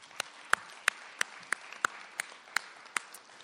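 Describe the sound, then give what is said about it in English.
Applause for McNally Robinson Booksellers, the festival bookstore, at a festival in Winnipeg, with about ten sharp, evenly spaced claps standing out over a soft, steady wash of quieter clapping, moderately loud and with no talking. “So can we give a round of applause, please?”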